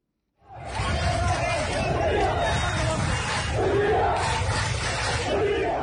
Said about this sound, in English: Amateur video posted on Twitter showed large crowds of demonstrators in the streets of Port Sudan Thursday chanting slogans against President Bashir and his government.